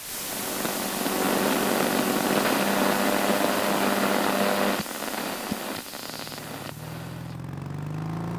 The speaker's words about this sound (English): We open to the sound of an untuned engine echoing around the outskirts of a city. The outer borders of Eagle Hill are much less populated and much more run down.